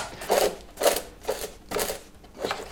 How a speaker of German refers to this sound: Dort, wo sie zuvor in den Falz der Papierbögen mit einer Ahle Löcher vorgestochen hat, bindet sie mit Nadel und Faden den Buchblock an die Stoffbinder an.